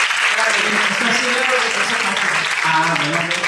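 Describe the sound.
A crowd applauds steadily for several seconds, a dense wash of clapping that stays loud throughout, with voices calling out and talking over it.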